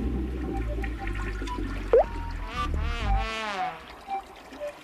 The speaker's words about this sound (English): I know it was you playing with the handle. Now remember, only flush when you have to so you don't waste water.